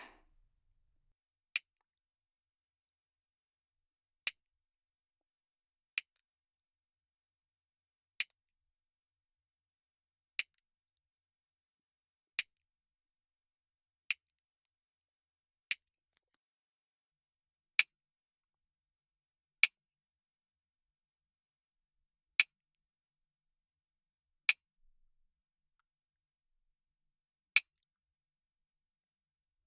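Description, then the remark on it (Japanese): A nail clipper trims the long nails on the right paw of the pet Nyanta in a slow series of about a dozen crisp, sharp snips, each a second or few apart, with quiet between them and no talking. “こっちも結構伸びてますな。ちょっと短くしちゃうね。”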